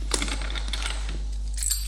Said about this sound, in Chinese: 拿起你的车钥匙走吧。你再不来，我就把你的车开走了。走吧。